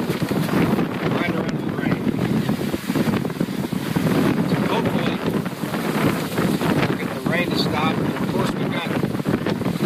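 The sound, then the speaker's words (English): Strong wind blows steadily, gusting and roaring against the microphone, pushing floodwater from the south, with rushing water churning underneath and a faint, muffled voice now and then. “Winds pushing the water from the south, and we've got the water coming in from the north, draining through the rivers and creeks and everything.”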